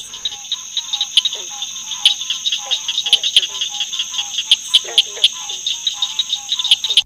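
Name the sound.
southern cricket frog call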